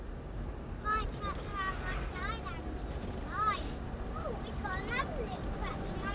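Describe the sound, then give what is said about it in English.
A red tractor's engine rumbles low and steady as it approaches, with wind buffeting the microphone and indistinct voices rising over the drone at intervals. “Hey, tractor, Chris. Where? Just now coming.”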